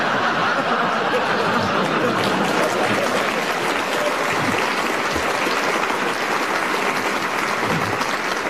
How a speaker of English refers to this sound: A very good challenge that got its well-deserved round of applause